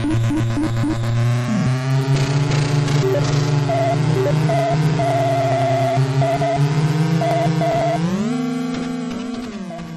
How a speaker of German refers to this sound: Ja, das ist ein bisschen ein Motorsound, ein bisschen Gequietsche beim Driften und vielleicht mal ein Rumpeln, wenn Fahrzeuge gegeneinander fahren, aber mehr ist da halt nicht so.